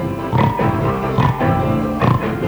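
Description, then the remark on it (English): Three short, snorting pig oinks come in a loose rhythm, loud, over a steady tonal musical backing that continues throughout. “Because a pig has stolen his food.”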